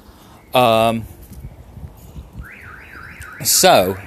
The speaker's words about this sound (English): So, apologies for the car alarm going off behind me, but we continue. It's not my car alarm, and that's the important fact for you.